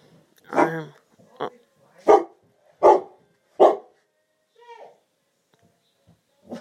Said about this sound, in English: Just my dog barking. I don't know what he's barking at.